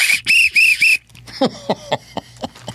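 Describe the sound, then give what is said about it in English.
A whistle is blown in four short, shrill, rapid blasts, followed by a scatter of softer clicks and chirpy noises. “Hadn't used a whistle in a long time.”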